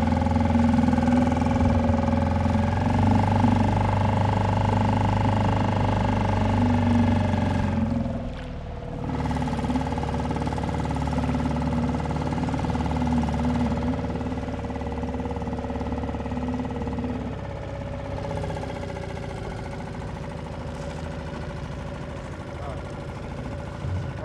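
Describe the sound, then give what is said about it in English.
The engine of a Zodiac boat drones loudly and steadily as the boat takes off, its pitch dipping briefly before settling back into a continuous hum with faint wind and water noise. “Are we all going to get the boat? Yeah. Okay. We climbed in and took off.”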